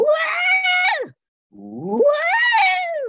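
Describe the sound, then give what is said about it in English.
A person demonstrates a scream: two loud, sustained shrieks split by a brief pause, the first held high then dropping off, the second sweeping up from a low pitch before falling away. “And then I want you to do a scream. I'll just do it once for you.”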